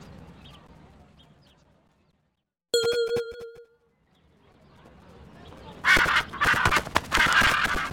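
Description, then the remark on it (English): A parrot squawks harshly and loudly, a cluster of raspy, repeated screeches in the final seconds, preceded by a brief ringing tonal call and quieter background. “Look, Mum, a parrot.”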